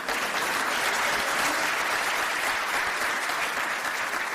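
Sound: audience clapping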